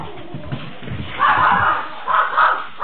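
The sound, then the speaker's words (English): A dog chasing a bear barks in a few loud, drawn-out bursts, one long bark followed by two or three shorter ones, over a low, muffled background rumble. “I am glad that dog didn't catch the bear.”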